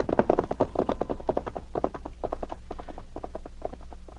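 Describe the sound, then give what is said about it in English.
Several horses' hooves clip-clop in a quick, steady, overlapping rhythm, fairly loud, with no voices, as three riders hurry on horseback along a hard trail toward a cabin. “Arriving at the Mellow place, David and the two crooks put their horses in a lean-to at the back”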